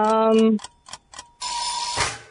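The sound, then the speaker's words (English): A quiz timer: a short electronic tone, a few rapid clock-like ticks, then a loud, harsh buzzer blares for about a second. No one speaks. “Oh, there's the buzzer.”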